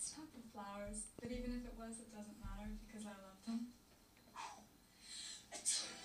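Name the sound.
sneeze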